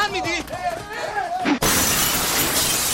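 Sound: glass breaking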